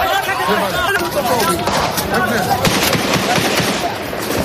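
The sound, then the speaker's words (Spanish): Sharp bursts of gunfire crack repeatedly and irregularly through a dense, noisy outdoor scene, with voices and shouting mixed in, during a morning exchange of fire between Shiite militia supporters and Iraqi security forces in Baghdad, Iraq. “La calma ha regresado a Bagdad a lo largo de la tarde después de que durante la mañana continuaran los tiroteos intermitentes.”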